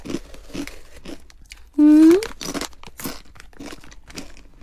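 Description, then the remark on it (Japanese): Someone bites and chews crunchy food, with a series of crisp, crackling crunches spread across the moment, broken once by a short, loud rising hum of a voice. “バリバリ。いっちゃってください。カロリーを気にせずに。”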